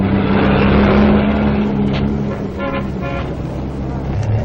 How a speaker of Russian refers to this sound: Сейчас мы будем свидетелями выдающегося события, которое произошло на строительстве Братской ГЭС. Колонны автомашин, груженных многотонными каменными глыбами, двинулись на штурм ангары.